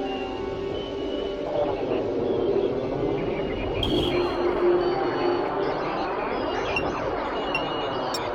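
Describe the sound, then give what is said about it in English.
Lightning whistler radio waves rendered as sound: many overlapping tones that glide downward in pitch, repeating steadily over a continuous crackling hiss, with no voices. “Well, whistlers are produced by lightning.”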